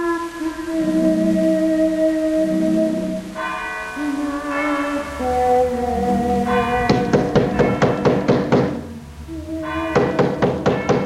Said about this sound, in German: Was klopft mit den Mitternachtsschlägen vom Kirchturm um die Wette? Pünktlich zur Geisterstunde ein Gespenst?